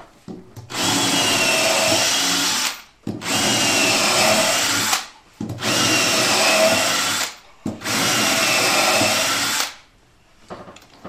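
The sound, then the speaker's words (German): A cordless drill bores a series of thin, deep holes into wood in four sustained bursts of about two seconds each, separated by short pauses, loud with a steady grinding buzz and no talking. “mache nun ganz viele Löcher mit diesem Bohrer in das Holz.”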